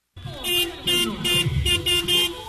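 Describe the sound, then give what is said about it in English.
Several car horns honk loudly in repeated, overlapping bursts, a fairly steady rhythm of blaring toots over a low engine rumble, with no talking, from a few dozen drivers parked around a wrestling ring at a lucha libre drive-in in Mexico City. “They pound their horns.”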